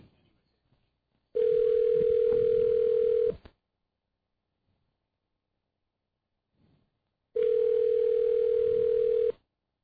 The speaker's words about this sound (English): Bet she's not home. Five ringy dingies.